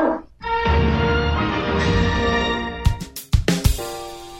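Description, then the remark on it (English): A dog whines in a long, high, tonal whimper for a few seconds, then lets out several short, sharp barks. “Good dog.”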